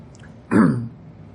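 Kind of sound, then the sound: human body sound, coughing and throat clearing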